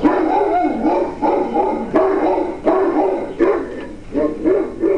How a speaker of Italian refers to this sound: Il cane abbaiò ancora. Il cuore dei due ragazzi si fermò di nuovo.